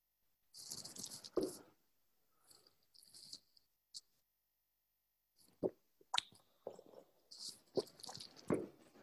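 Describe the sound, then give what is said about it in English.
Quiet slurping sips of hot tea, several short wet bursts with airy hiss and little plops and swallows between pauses, no talking. “Through the class, I'll be sipping tea.”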